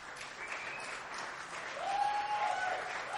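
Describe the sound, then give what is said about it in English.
A live audience claps steadily to vote in a poll, a dense hiss of many hands that swells slightly toward the end, with a thin whistle-like tone rising briefly over it. No one speaks. “If you think the horny novel is Don't Neglect Dracula's Balls, please applaud.”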